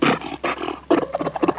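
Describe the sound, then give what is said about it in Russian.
Fur seals bark in a rapid, cackling chorus that sounds like laughter, with harsh, throaty calls coming in several loud bursts and no talking. “Котики дорогие, котики морские, вы слышали, как надо мной посмеялась лисица?”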